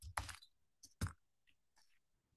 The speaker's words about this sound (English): No, I'm typing too fast. My left hand doesn't work very well.